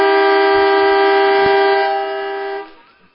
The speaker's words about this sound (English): So the siren has sounded for the quarter time break. So here at Dairy Farmers Park, Eastlake 4-3-27, making the most of their opportunities in that first quarter.